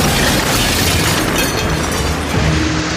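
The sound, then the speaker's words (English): A machine falls from the sky and smashes through the steps at the bottom of a palace: a loud, continuous roaring rumble with heavy booming noise that barely lets up for about three seconds, with no voices. “But then the machine fell from the sky.”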